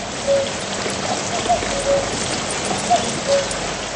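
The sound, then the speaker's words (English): Torrential rain pours down in a dense, steady hiss that fills the whole scene in the morning in Glenveagh National Park, County Donegal, in 2014, with a few faint, repeated whistled notes of a lone male cuckoo singing barely rising above the downpour. “The most memorable of these came in 2014, thanks to a lone male in Glenveagh National Park, County Donegal, which sang loudly throughout the morning despite torrential rain.”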